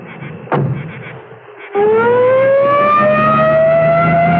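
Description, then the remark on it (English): A dull thump, then a loud ambulance siren winds up and holds a steady, slowly rising wail, continuing to the end with no voices. “All right, now slide it easy into the ambulance. A woman and me will follow you in the squad car.”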